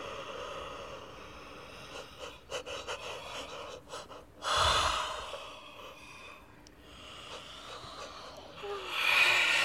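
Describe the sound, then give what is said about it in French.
Loud, breathy exhalations and gasps from animals, like heavy yawning sighs, rising in a few drawn-out bursts with softer intermittent breaths between them, without any talking. “Ils baillent tellement qu'ils vont bientôt roupiller.”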